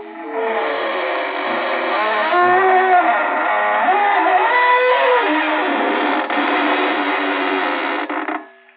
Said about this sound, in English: Good evening, friends of the Inner Sanctum. This is your host to welcome you in through the creaking door.